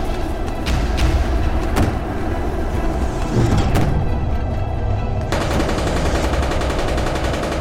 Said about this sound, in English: The tanks continued to fire. They're trying. But the ship wiped them out in an instant.